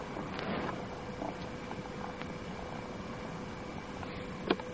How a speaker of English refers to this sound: That's freaky. Recording purring. I wonder how that sounds. The answer is it sounds fine.